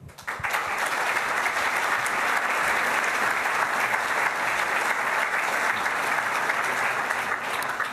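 A crowd claps steadily for several seconds, a dense, sustained wash of applause that starts abruptly and holds at an even, fairly loud level, with no voices standing out.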